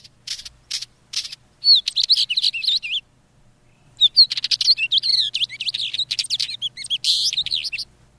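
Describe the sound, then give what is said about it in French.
A small migratory mountain bird, often seen perched on a rock, gives a few hard, clicking "trac" calls, then bursts into busy, chattering warbled song in two long phrases, clear with no voices. “Et c'est son trac, trac, trac qui est très caractéristique.”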